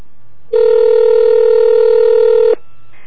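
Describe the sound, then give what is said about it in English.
A single steady telephone ringback tone on a call to the Federal Trade Commission's Identity Theft Hotline, a loud two-second buzzing burst heard through the phone line, starting abruptly and cutting off cleanly, with no voices present. “Oh, it's ringing.”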